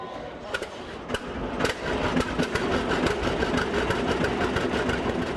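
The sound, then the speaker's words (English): A tractor engine runs steadily with a low, chugging rumble and rhythmic mechanical clatter, growing slightly louder after the first couple of seconds, during a tractor ride in a parking lot. “Let's take the NPR reporter on a tractor ride out in the parking lot.”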